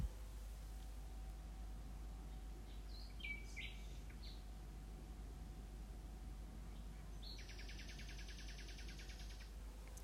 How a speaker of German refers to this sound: Die Nachtigall, die stelle ich euch hier noch ein und lese euch das auch mal vor.